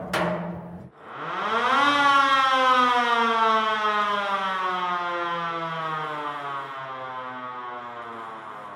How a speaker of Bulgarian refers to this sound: Началото на 20 век, 20-те години, значи 1923-та, някъде там тази сирена е била на въоръжение в Русе. Тя е австрийска и с нея се подава сигнал тревога и оттам всички хукват да гасят.